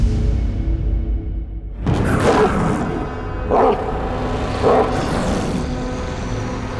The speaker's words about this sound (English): The distant barks of a monster woke the sleeping man.